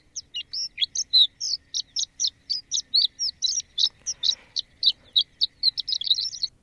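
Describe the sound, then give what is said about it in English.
A recording of a North American bird from a field guide's audio: it sings a long, rapid series of bright, high-pitched chirping notes in a steady, almost rhythmic run, clear with no voices. “playing some audio from the Bird Songs Bible, the complete illustrated reference for North American birds”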